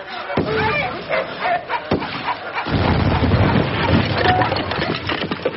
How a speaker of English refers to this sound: My uncle's bullet hit his pack and ignited the box of explosives he carried all the way to the Earth's core.